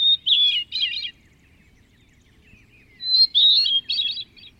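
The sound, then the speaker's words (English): Two phrases of hermit thrush song, each a clear opening whistle followed by rising, fluty, echoing notes, separated by a quiet pause over faint low background hum. “His favorite woodland bird was the ethereal hermit thrush.”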